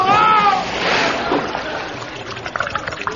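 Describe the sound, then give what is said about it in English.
A brief rising cry cuts off into a heavy splash as a boy plunges into a river, the water coming over his head, followed by softer sloshing and scattered drips settling down. “In fact, it's come over his head.”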